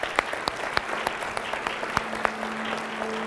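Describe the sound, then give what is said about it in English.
A crowd applauds steadily, a dense patter of many hands clapping with a few sharper claps standing out, sustained at an even, moderate level throughout, with no one speaking. “Would you help me give a round of applause to all those who are, yeah.”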